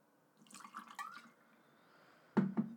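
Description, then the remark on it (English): Rum is poured into a glass with ice, with a few soft gurgling splashes, a brief pause, then a louder splashing burst near the end. No one speaks. “And I'm gonna pour myself some rum.”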